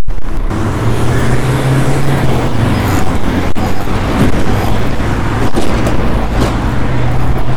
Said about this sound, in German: Dahinter ist der Busbahnhof, ne? Hier fahren jetzt diese ganzen Billigbuslinien rum, also los und ab.